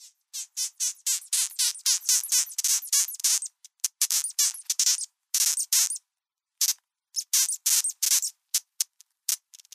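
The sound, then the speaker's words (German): A rapid series of short, high-pitched squeaky whistles from a moth sucking air in and pushing it back out, pulsing in quick irregular bursts with brief pauses between clusters, with no voices present. “der hat den ganz kurzen Rüssel, um damit Bienenwaben, Honigwaben anzustechen, saugt die Luft rein und stößt sie wieder aus und macht so ein pfeifendes Geräusch.”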